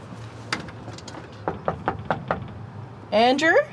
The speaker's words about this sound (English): I'll just try and knock on his door again. I have this feeling that he might be in there.